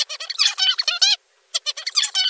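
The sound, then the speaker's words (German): High, squeaky whistling chirps from a young songbird not yet practised at its song, delivered in two uneven bursts with a short pause between, sounding wavering and unpolished, fairly loud with no talking. “Noch ohne Übung tönen seine Pfiffe etwas hilflos.”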